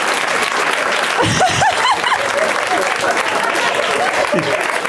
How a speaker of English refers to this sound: This show's come to the point where people cheer when somebody pulls out one movie.